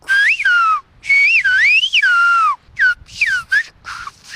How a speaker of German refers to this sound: Er presst die Luft kraftvoll durch Zähne und Zunge. Die Finger benutzt er dafür nicht. Erst kommt ein lauter Pfiff, um Aufmerksamkeit zu erregen. Dann die eigentliche Nachricht, etwa